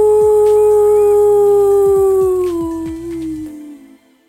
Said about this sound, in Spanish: Y ahora sí, comencemos con un triste aullido.